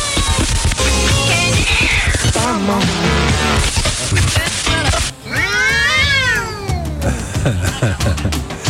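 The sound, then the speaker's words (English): A cat meows loudly and repeatedly, with drawn-out, wavering cries that rise and fall. One long yowl stands out near the end, over a dense, continuous background. “When they got there, they were surprised to find a cat, silly cat, had turned on the stereo system and turned up the volume real loud.”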